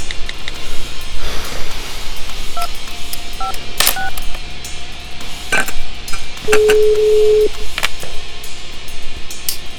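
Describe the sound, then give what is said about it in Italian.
Telephone keypad tones dialing a call that reaches Shablo's answering machine: a short run of several quick beeps in an irregular rhythm, followed by a longer steady tone, all over a faint background hiss with no talking. “Questa è la segreteria telefonica di Shablo.”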